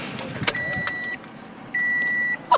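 Inside a car parked at a cemetery, a steady electronic warning tone sounds in two sustained stretches, with a few sharp clicks, soft rustling and a low background hum. No one speaks.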